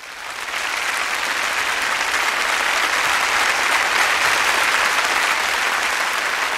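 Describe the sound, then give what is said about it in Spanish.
A concert audience applauds as conductor Andrew Davis enters the stage to lead the BBC Symphony Orchestra in Britten's Variations on a Theme of Frank Bridge, a dense wash of many hands clapping that swells in over the first half second and holds at an even, fairly loud level throughout. “Ingresa en el escenario con los aplausos del público el director Andrew Davis.”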